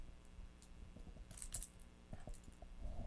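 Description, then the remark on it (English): A child shakes a set of plastic toy keys (car, house, shed and treasure box keys in blue, yellow, pink and purple), which rattle and clack together in a quiet, irregular burst of light clicks, with a brief brighter jangle midway and no voices. “He's gonna shake your keys, huh?”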